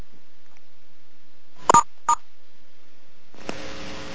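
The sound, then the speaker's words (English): Two short telephone keypad tones, star and six pressed to mute the phone on a conference call, come in quick succession, clear, over a quiet line, followed by a burst of steady hissy line noise. “Yeah, please press *6 to mute your phone.”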